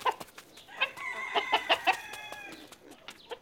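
A chicken clucks several times in quick, uneven bursts, fairly loud, with a few sharper squawking notes in the middle and no voices.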